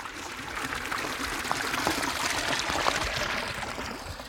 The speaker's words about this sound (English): That water is crystal clear, and it's coming out of what I think is an old cast iron pipe. It's hard to tell because the end of it's just covered in moss.